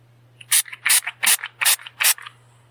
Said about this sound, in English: love spray. It's my favorite of all the ASMR sounds. And I love making spray.